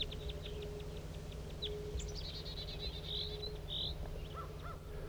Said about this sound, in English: Here come some wild birds. Wild bird. Wild bird in flight. It's going towards the main flock.